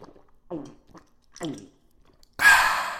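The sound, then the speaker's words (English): A few soft breathy, mouthy sounds, then a loud hissing rush as someone sucks gas from a can down their throat, lasting about half a second before trailing off. “Shoot a can down your gullet and everything you say will sound like a curse word.”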